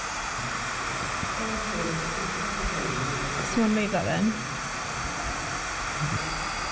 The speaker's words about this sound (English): We've got some white noise on the table.